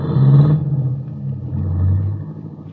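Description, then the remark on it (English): A limousine's engine rumbles as it pulls away in town, driven off toward the highway: a low throaty rev at first that eases off, then swells again briefly as the car drives off. No voices. “and then wait as the big guy gets into the limousine and is driven off toward the highway.”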